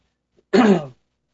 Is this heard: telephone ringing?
no